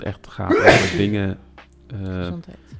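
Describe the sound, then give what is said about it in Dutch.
A single sharp, forceful sneeze bursts out, followed right away by someone talking in a calm, conversational voice. “Gezondheid.”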